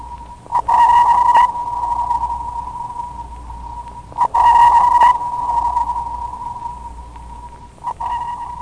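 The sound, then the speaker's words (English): Underwater sonar pings, used to search the depths, sound three times at steady intervals, each a bright tone near one pitch that rings out and trails off into a long, fading reverberation. “Much like the porpoise, man uses sonar, sound navigation, and ranging to search the depths.”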